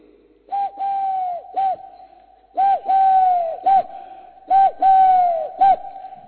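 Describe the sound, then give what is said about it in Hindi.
A human voice imitates the call of a dove called holla ghughi in Hindi: three repeated phrases, each a short hoot, a long sustained mid-pitched coo, then another short hoot, loud and steady with brief pauses between. “एक होल्ला होता है, होल्ला घुगी बोलते।”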